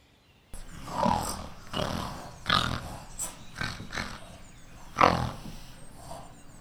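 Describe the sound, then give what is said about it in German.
Several rough, guttural grunts from pigs sound in an irregular series, fairly loud, with broad noisy bursts and short pauses between them; no one speaks. “Grunzen ziehen die Schweine weiter und werden hoffentlich gefangen.”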